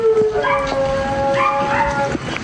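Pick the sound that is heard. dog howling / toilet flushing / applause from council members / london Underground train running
dog howling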